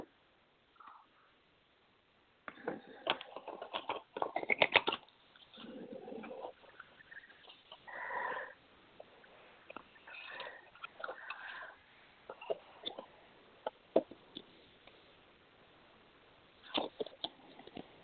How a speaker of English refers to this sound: Okay, one second while I shuffle the cards.